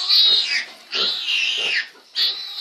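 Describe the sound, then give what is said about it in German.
A pig oinks and squeals in three loud, harsh bursts separated by brief pauses, with no talking. “Viele Schweinearten waren zwischenzeitlich vom Aussterben bedroht.”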